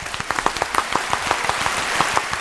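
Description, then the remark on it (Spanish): A burst of audience applause for a speech just given, many hands clapping in a dense, steady patter with sharp individual claps standing out, fairly loud throughout with no voices. “Venga, un aplauso.”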